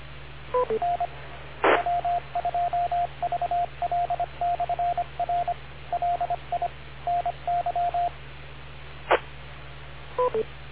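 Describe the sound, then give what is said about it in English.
A radio beep tone on the TechNet radio net: a long run of short, steady mid-pitched beeps in a coded rhythm over a hissy channel, bracketed by quick two-tone chirps, with two sharp bursts of static. “Okay, I was waiting for the beep.”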